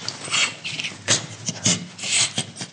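A gorilla laughs while being tickled by a zookeeper: a string of breathy, raspy panting bursts in an uneven rhythm, like rapid huffing breaths, with no voices over it.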